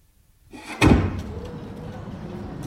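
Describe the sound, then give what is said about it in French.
A door is closed with one solid, fairly loud thud after a brief rustle, followed by a steady murmur of ambient noise. “Je ferme la porte et je m'en vais à pied.”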